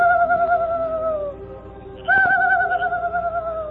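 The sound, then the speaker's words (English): A man's voice imitates a night bird's call as a signal at night near a camp: two long, wavering, hooting cries with a short pause between them, fairly loud over a faint background hum. “He signaled with an imitation of a night bird's call.”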